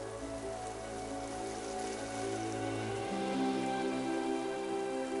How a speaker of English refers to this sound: It's known as a flash flood, and called that because the water may run for just a single day. It's an event that only happens once or twice a year at the most.